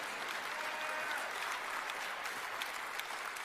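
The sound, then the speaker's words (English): An audience claps their hands in affirmation of a preacher's declaration about the gospel of Jesus Christ, in a steady, dense wash of applause that holds at an even level throughout, with many overlapping claps blending into continuous noise. “If you believe that today, would you say amen, clap your hands, or let me know you are an affirmation to what I've just declared to you today.”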